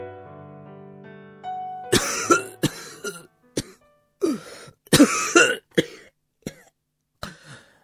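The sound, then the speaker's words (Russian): A soft sustained musical tone gives way to a heavy coughing fit caused by smoke: about nine harsh, raspy coughs in irregular bursts, loud, some with throat-clearing rasps, ending in short, weaker hacks. “От дыма Джеймс Ферн зашелся тяжелым кашлем, но все же не отнял руки у ребенка.”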